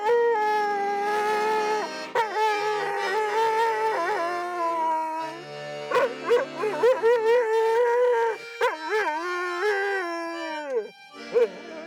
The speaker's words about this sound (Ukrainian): Те, що пес вміє співати, бійці запримітили не одразу, бо в підрозділі не було музичних інструментів.